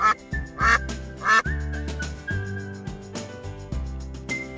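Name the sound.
goose honking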